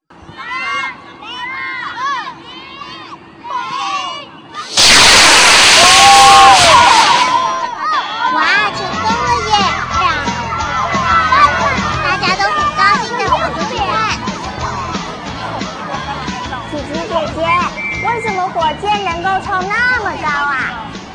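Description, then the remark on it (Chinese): Excited children shout and chatter outdoors, then a sudden loud rushing whoosh of a child's small gunpowder-propelled model rocket launching bursts out for a couple of seconds, followed by continued cheering and lively crowd noise. “啊，又有小朋友的火箭要发射了，我们赶快来看。”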